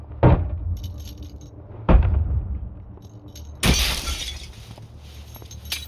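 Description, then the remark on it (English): Plexiglass in a van is struck with three heavy, thudding blows. The third breaks into a loud, bright shatter with rattling debris trailing off, and a last sharp crack follows. No one speaks. “1, 2, 3. Fucking plexiglass.”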